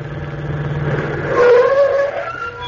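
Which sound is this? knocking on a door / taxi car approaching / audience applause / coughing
taxi car approaching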